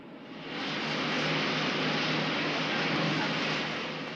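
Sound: aircraft engines running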